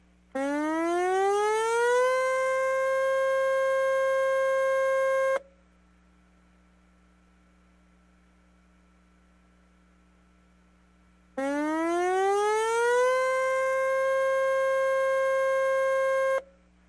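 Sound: tsunami warning siren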